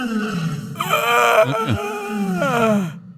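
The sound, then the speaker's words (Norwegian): A person imitates a lion's roar with a loud, raspy growl that swells and wavers for about three seconds, breaking into a second rough surge before fading out. “Det er en jeg kan på en måte, er løvelyder.”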